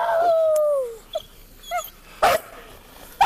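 A police dog, appearing in the dark, bites a woman's arm: a long, falling whine, followed by a few short, higher yelps and a sudden loud, harsh burst near the end, with no one talking.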